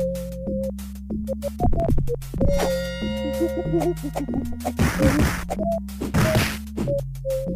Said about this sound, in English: Okay, that sounds like some punching. Right. Streets of Rage, no? No, there was some punching, though. Okay, not Streets of Rage 2 or 1. It was a beat-em-up video game from 1995. A Sega Genesis, also Super Nintendo.